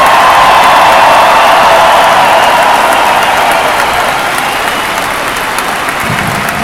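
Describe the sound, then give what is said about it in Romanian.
Sustained, loud applause from a large audience for tennis player Simona Halep at a Fed Cup event in Cluj, Romania. A dense, steady clatter of clapping with scattered cheers holds for several seconds and eases slightly toward the end. “Aplauze pentru Simona Halep!”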